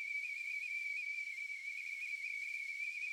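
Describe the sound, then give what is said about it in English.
A steady, piercing high-pitched whistle like a tea kettle going off, simulating the ringing of tinnitus, holding one shrill tone with a faint breathy hiss around it for the whole stretch, with no voices. “They can express it as sounding like crickets, buzzing, a tea kettle going off.”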